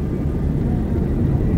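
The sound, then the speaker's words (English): Airplane engines roar steadily during takeoff as the plane speeds down the runway, picking up speed while still on the ground; a continuous heavy low rumble with a broad whooshing hiss above it, loud and unbroken throughout with no voices. “The roar of the engines can be heard.”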